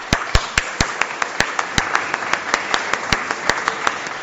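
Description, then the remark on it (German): A group claps steadily for confirmation students who passed their exam, with a wash of overlapping hand claps and a few sharper, louder claps standing out, sustained throughout with no talking. “Applaus für euch.”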